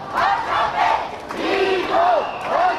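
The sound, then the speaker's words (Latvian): A large crowd chants in unison at a street demonstration led by Pashinyan in Republic Square in central Yerevan, Armenia, on a Sunday evening, many voices rising and falling together in a steady, repeated rhythmic phrase that stays loud throughout. “Pēcpusdienā Pašinjans devās gājienu galvgalī cilvēku straumēm plūstot uz Erevānas centrālo republikas laukumu, uz vēl 1000 cilvēku demonstrāciju svētdienas vakarā, ko viņš pats nosauca par ārkārtīgi svarīgu.”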